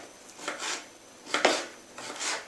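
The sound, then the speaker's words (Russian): A knife dices a cucumber on a cutting board, the cucumber cut lengthwise into four parts and then crosswise into small cubes: soft, crisp scraping chops come in uneven pairs of strokes, with one sharper knock in the middle and no voices. “Получается, один огурец у нас вдоль... на 4 части разделен, и дальше уже поперек и кубиками.”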